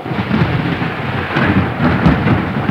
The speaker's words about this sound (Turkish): İşte yağmur başladı anne, bak.